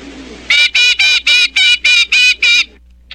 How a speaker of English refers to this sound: And now that old scoundrel, the Blue Jay, or as they call him down here, the Jaybird.